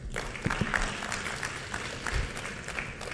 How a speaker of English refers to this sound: If you have decided to clap, clap enthusiastically. Dharma of a clapper is to clap.